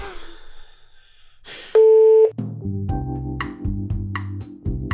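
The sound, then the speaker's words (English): A phone line tone after a hang-up: one loud, steady electronic beep, then a run of repeating, pulsing electronic tones at shifting pitches. No one speaks over it. “hung up on me, so I guess I'll just take over.”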